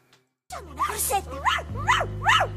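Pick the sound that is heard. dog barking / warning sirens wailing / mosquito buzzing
dog barking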